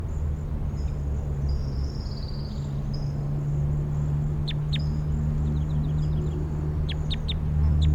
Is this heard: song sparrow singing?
yes